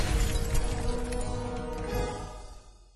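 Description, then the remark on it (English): Glass shatters in a sudden crash, followed by a scatter of tinkling fragments that gradually fade over a few seconds. No voices are heard. “Then there was a small explosion of glass.”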